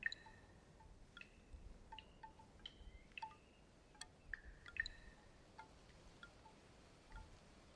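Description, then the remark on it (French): Water drips from a small spring, a thin trickle of water between stones, in irregular, bright, resonant plinks, about a dozen over several seconds, over a soft, steady, wind-like hiss. “On ose à peine en prélever quelques gouttes.”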